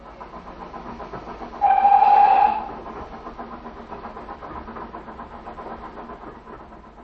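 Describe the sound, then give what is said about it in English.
A steam train rumbles steadily along while its whistle blows one loud, sustained blast lasting about a second, then the chugging carries on at an even, moderate level with no voices. “If we're quick, we can be in Woking by 11 o'clock. The train only takes an hour.”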